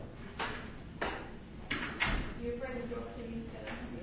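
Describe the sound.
A door is pushed shut with a few solid wooden thuds and bumps in quick succession, followed by a soft hum of voice or room noise afterward.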